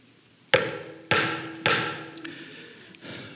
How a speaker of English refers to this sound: Well, I'm trying to finish up a project here, and I broke the handle on my hammer, and so it's kind of being a little bit tougher than I wish it would.